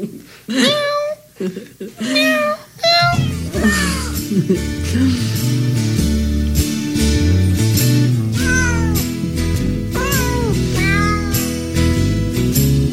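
Cat meows pitched into a jaunty Christmas melody, bursts of separate meows at first, then layered over a full, bouncy music backing that carries the tune steadily and loudly to the end.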